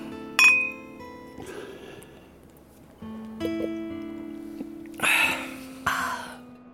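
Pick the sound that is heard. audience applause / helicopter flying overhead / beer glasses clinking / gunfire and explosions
beer glasses clinking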